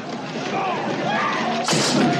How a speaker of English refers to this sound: A pie hits the door.